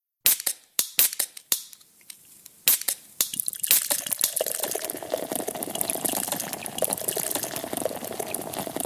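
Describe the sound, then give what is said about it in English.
A series of sharp clicks and clinks, then beer pours steadily from a bottle with a continuous, fizzy gush that lasts to the end, fairly loud, with no voices. “Bottom of the ninth bottle of beer now, who's counting? Glug's beer.”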